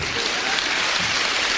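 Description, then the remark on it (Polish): Dense, steady clapping from a large audience applauding a man, filling the whole stretch, a loud continuous patter of many hands with no voices standing out. “Majstersztyk, brawa dla tego pana.”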